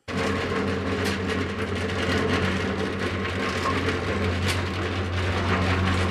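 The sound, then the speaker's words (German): Six concrete mixers in an art installation by South Korean artist Maire Lee at the Zollamt of the Museum für Moderne Kunst in Frankfurt grind away in a steady mechanical roar, with deep droning hums beneath a rough, scraping churn that stays loud throughout, and no voices. “Sechs Betonmischer, die in Intervallen mit ihren mahlenden Geräuschen den Raum erfüllen.”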